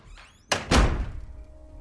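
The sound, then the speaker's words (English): A bathroom door slams shut as someone storms into the bathroom: a quick double impact, a sharp knock followed by a heavier, booming thud that rings out briefly before fading into quiet. No one speaks. “storms into the bathroom.”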